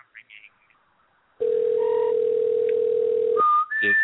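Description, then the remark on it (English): A telephone ringing tone on an outgoing call sounds as a steady, loud, buzzy hum for about two seconds, then cuts to a short higher beep and a few brief higher-pitched tones. “And I'm ringing.”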